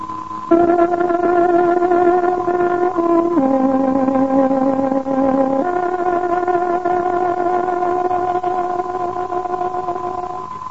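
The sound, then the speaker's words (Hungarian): A tárogató plays the Radio Free Europe Hungarian service (Voice of Free Hungary) short-wave time-signal melody marking 14:00: a few long, sustained reedy notes, dipping lower in the middle before returning. It is loud and steady, with no talking over it. “Tárogatónk hangja 14 órát jelez.”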